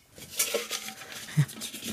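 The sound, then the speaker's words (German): An old metal pan or pot, standing under a seat, being handled: a few light clanks and scraping knocks scattered unevenly over two seconds, with no voices. “Greif doch mal unter deinen Sitz, da steht ein Topf.”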